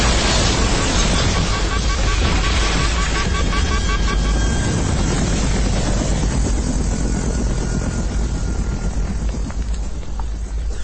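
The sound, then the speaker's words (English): A missile explosion striking an aircraft and smashing its screen glass: a loud, continuous roaring blast with deep rumbling and harsh crackle that holds steady for about eleven seconds, with faint muffled voices underneath. “A missile out of nowhere.”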